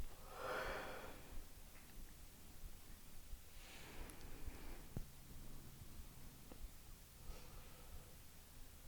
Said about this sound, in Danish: I starter med at lave en dyb vejrtrækning. Ind igennem næsen og hele vejen ned i maven.